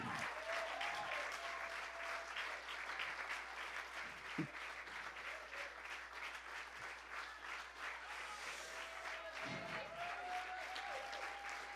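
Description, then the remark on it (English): A crowd applauds steadily, a dense, sustained wash of many hands clapping at a constant loud level, with a few faint whistles and cheers rising above it. “Keep clapping.”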